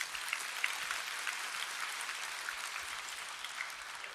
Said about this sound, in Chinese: 好吧，我们拍手吧，荣耀归给神。